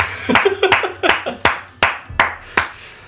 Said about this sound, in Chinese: 谢谢大家， 拍手。